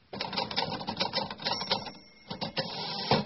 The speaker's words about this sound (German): Ist das ein Telefon? Nein, das ist kein Telefon. Frage: Was ist das? Eine Schreibmaschine? Ja, das ist eine Schreibmaschine. Bitte? Ja, Schreibmaschine. Eine Schreibmaschine.